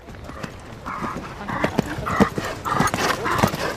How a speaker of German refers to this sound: Ich bin jetzt gerade aber erst nochmal bei den Übungen der Reiter dabei. Hier kommt jetzt auch mir direkt ein Pferd entgegen, das ist ein bisschen zu nah.